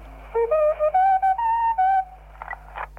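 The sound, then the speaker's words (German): The station tone of Bayerischer Rundfunk, the Bavarian broadcaster, heard during a telephone call: a series of clear, steady whistle-like tones stepping through a short melody at mid-high pitch over the telephone line, with a low hum underneath, followed by brief faint noisy sounds. “Das war also der Ton vom Bayerischen Rundfunk, den man gehört hat am Telefon.”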